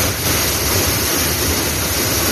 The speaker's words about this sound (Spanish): Pues esto que estás escuchando es el agua a presión saliendo esta mañana a primera hora de esa tubería rota.